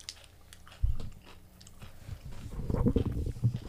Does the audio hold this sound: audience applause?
no